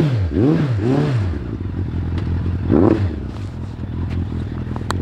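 A motorcycle engine is started and idles with a steady low rumble, revved several times in quick swelling bursts early on, then once more, with some rattling clatter.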